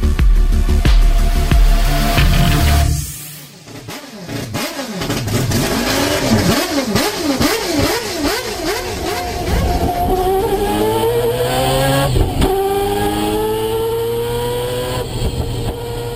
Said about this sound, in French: Le son que vous venez d'entendre est celui du moteur rotatif à quatre rotors de 2,6 litres de la voiture de course 787B avec laquelle Mazda a remporté les 24 heures du Mans en 1991.